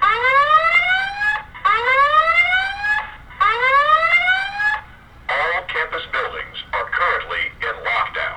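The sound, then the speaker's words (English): A school lockdown drill alarm at an elementary school, the first lockdown drill of the school year, in the middle of the day: three loud, rising electronic whoops, each about a second and a half long, followed by a choppy voice announcement over the intercom. “At Green Valley Elementary School, students and teachers know what to do when they hear this alarm.”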